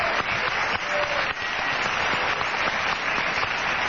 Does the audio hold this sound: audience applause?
yes